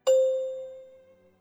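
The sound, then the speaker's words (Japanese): A single bright chime strikes once with a sharp attack, then its clear tone rings out and slowly fades over about a second, signaling the learner's turn to repeat and ask a question in a language question-practice drill. No voices are present. “のチャイムの後に続けてうくむにで質問しましょう。”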